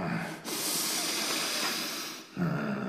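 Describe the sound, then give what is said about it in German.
Someone snorts heavily: one long, loud, breathy rush of air lasting about two seconds, hissing and rough, with faint voiced sounds just before and after. “Da schnauft doch jemand. Ich höre es ganz genau.”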